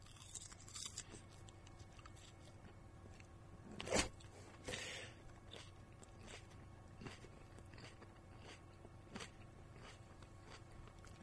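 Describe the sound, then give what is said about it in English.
Crunching from someone biting into and chewing a fresh tomato, with a sharp bite near the start followed by softer, irregular chewing crunches and no talking. “I'm having a hard time thinking with that crunching sound in my ears. It's so crunchy.”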